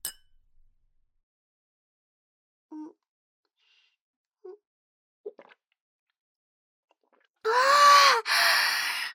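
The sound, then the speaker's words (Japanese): Glasses clink together in a toast, a bright ringing contact near the end after a long quiet stretch broken only by a few soft, small knocks. “それでは、乾杯。”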